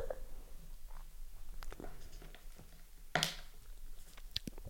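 water bottle being handled

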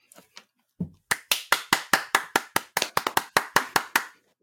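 hand clapping

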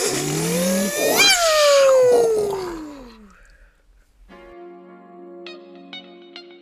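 engine starting up

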